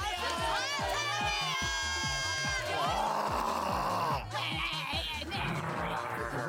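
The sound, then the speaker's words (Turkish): Several people on the sidelines shriek and screech loudly, imitating Jurassic Park dinosaur roars, their high, warbling cries overlapping in a noisy crowd over a steady, fast low thumping beat. “Kenarda artık Jurassic Park sesleri çıkıyor.”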